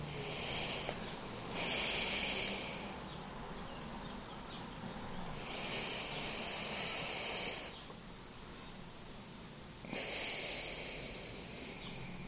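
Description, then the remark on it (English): Slow, deep breaths in a breathing exercise, drawn in for a count of five, held briefly and let out for a count of seven: several long airy whooshes with quiet pauses between them and no talking. “Hold it briefly for a count of five. And then release. to a count of seven and allow your breath to extend out into space.”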